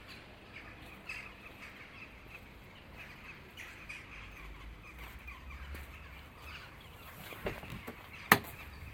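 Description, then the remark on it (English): Jackdaws call in the morning in short, harsh squawks scattered over a steady low background hum, mostly faint, with a single sharp, loud crack near the end. “Leave the jackdaws to the morning ablutions.”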